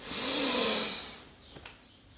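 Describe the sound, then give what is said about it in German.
A slow, deep inhale drawn in through the nose or mouth, airy, swelling for about a second before fading into quiet with a faint catch at the end, taken during a guided breathing and relaxation exercise. “Wir nehmen jetzt gemeinsam einen tiefen Atemzug und atmen ein.”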